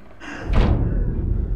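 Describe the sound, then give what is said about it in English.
A bedroom door off an upstairs hallway swings shut: a short airy swish, then a single heavy thud whose low rumble lingers for about a second afterward. No voices. “Grace walks out into the hall and sees her bedroom door close.”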